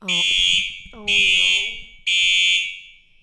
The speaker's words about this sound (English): We just had to go outside because, as you could tell, there was a fire alarm. They told us to get out, then they told us to get back in, and then we had to get back out again.